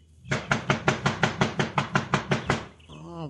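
A rapid, steady run of about a dozen loud, hard knocks on a very heavy front door, evenly spaced, followed by a brief voice starting as the knocking stops.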